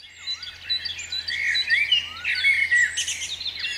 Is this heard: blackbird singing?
yes